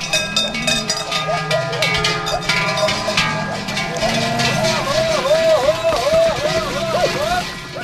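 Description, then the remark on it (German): A dense, continuous jangle of many cowbells clanking at different pitches as a herd of cows and goats moves with people toward the village, fairly loud and steady, with faint voices mixed underneath. “Geissen, Kühe und Menschen haben ein gemeinsames Tempo gefunden.”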